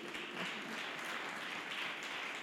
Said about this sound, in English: Come on, let's clap hands for Jesus Christ.